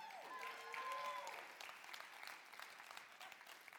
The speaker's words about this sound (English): Okay, here's the deal. Judging by that round of applause, which should have been greater, because here's the deal.